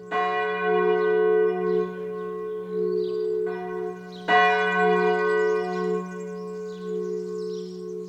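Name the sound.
church bells ringing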